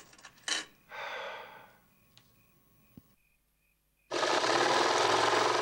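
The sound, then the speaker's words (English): A few breathy rustles and a faint intermittent beep, then a woman's sewing machine, used to sew a gown, suddenly starts up, running loud and steady with a dense mechanical whir until the end. “Augustine stands in the doorway watching his mother using the sewing machine.”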